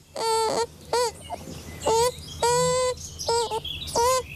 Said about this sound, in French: Je pense que tout le monde le devine, c'est un bébé. Hein, parce que d'ailleurs, ça ressemble beaucoup à un bébé humain, sauf que c'est un bébé castor.